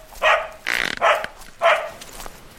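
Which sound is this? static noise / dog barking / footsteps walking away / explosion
dog barking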